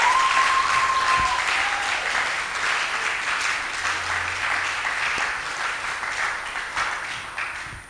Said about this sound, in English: If you are getting blessed, can I ask you to clap to God's glory? Oh, come on, clap louder, clap better.